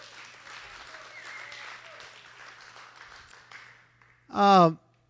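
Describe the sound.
An audience applauds with a steady, dense patter of clapping for about four seconds, then it thins out and a short, loud voiced shout or whoop cuts in at the end.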